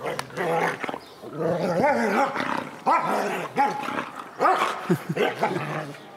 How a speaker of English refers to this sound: So it sounds like the dog is growling, and it is, but you can tell that the dog is actually happy and playing because there are a couple of things. One is that the growls are a little bit higher pitched than a low, deep, angry growl.